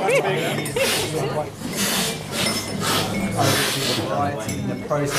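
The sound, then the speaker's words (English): Repeated loud, hissy slurps of specialty coffee sucked off spoons during a coffee tasting, several overlapping in quick succession, with murmuring voices in the background. “Do the slurping noises make it rage?”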